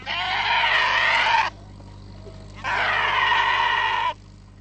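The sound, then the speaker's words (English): Two loud, drawn-out bleats from a flock of goats and sheep tended by young girls on the flat plain north of Baghdad, Iraq, around Saddam Hussein's hometown, each lasting over a second, separated by a short pause with a low steady background hum. “Girls removed from school by age 9 tend flocks of goats and sheep.”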